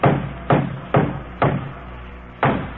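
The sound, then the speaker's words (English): Five heavy, resonant thuds of someone hitting a wooden board to knock it loose, four in a steady rhythm, then a short pause before a final blow. Fairly loud, with no voices. “That board you're hitting there might be holding up yes, the whole roof.”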